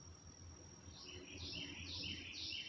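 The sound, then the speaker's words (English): A distant bird, heard from a deck early in the morning, calls loudly and repeatedly in a series of high, sweeping chirps, rising out of a low outdoor rumble with no talking. “Can you hear that bird in the distance?”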